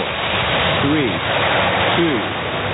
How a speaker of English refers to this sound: A retaining wall was leaking, and while one official dickered over the price of fixing it, it broke. The Chicago River poured in.